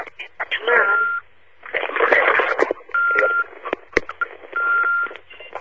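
Electronic beeps on a phone line: a steady high tone sounds three times, each amid bursts of crackly, garbled, narrow-band line noise with brief sharp clicks.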